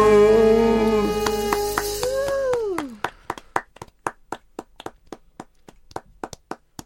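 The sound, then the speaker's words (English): A held, sung-sounding note slides downward and fades, then one person claps alone on a radio broadcast in a steady, even rhythm of about a dozen crisp claps. “Clapping on the radio is better when Steve Wright does it, isn't it?”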